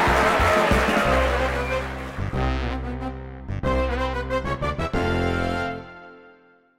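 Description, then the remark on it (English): A Triumph sports car engine revs loudly and pulls away, climbing through several gear changes before its roar fades away. “loaded one suitcase with clothes onto the passenger seat of his Triumph sports car and began the drive west.”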